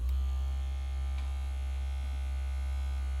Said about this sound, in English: That's right. That's not my phone, big boy. It's a vibrator.